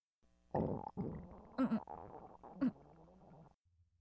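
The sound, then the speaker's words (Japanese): A long, gurgling stomach rumble rolls on for about three seconds, with low churning growls and two sharper squelchy bursts partway through, moderately loud and with no talking. “なんかお腹が…お昼の海鮮が原因かな。”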